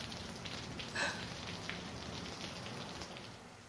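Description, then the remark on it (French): Steady rain patters on a surface, a dense continuous hiss of drops with a few brighter splashes near the start, moderately soft, with no voices. “Oh, encore la pluie. Mais ça fait rien, on aime ça, la pluie.”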